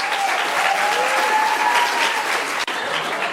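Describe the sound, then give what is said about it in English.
Steady, dense applause from an audience at a comics panel fills the whole stretch as the panelists are introduced, starting with Jill Thompson, creator of Scary Godmother. A loud wash of clapping with a faint whistle or cheer rising above it, broken by one brief cut near the end. “Please, let's give a round of applause to today's coven of witches, starting with Jill Thompson, creator of Scary Godmother.”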